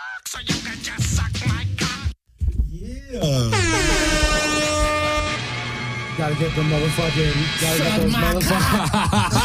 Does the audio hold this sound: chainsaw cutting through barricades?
no